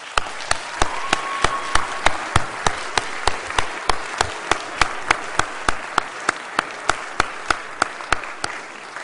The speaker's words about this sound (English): So I would ask that you give our staff a big round of applause.